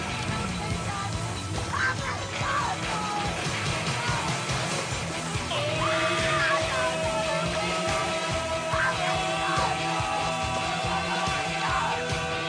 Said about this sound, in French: Comme vous avez pu le noter, on a mis les petits plats dans les grands avec ce jingle cousu-main à base de bruit de tronçonneuse et de scream queen hurlante. Je pense que ça fait son petit effet.